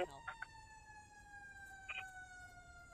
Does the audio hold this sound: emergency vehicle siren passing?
yes